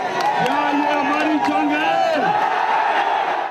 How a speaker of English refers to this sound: Shouting, "Down with America and down with NATO," the angry protesters say they are ready to go to any extent to compel the authorities to review their decision.